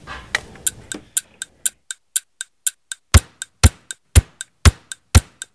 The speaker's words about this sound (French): Tic-tac, toc, tic-tac, toc, tic-tac.